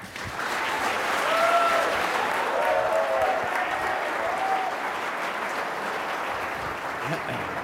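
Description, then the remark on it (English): Sustained audience applause at the Commonwealth Club as Governor Rick Perry is welcomed, a dense steady clatter of many hands clapping at an even loudness for several seconds, with faint cheers or whistles rising through it early on. “Please welcome Governor Rick Perry.”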